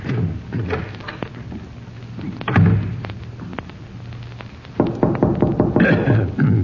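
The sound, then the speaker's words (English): Sharp raps of knocking on a door come in scattered bursts, then a quicker run of knocks near the end, all over a steady low rumble with no talking. “Yes, that's the door.”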